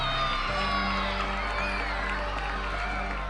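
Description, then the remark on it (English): A crowd of children cheering and whooping after being told that each of them will get a bike, loud and sustained for a few seconds, with overlapping high-pitched shouts and excited voices blending into a continuous roar. “As you saw some of the crowd reaction when he said, here's a pledge, and how would each one of you like to get a bike?”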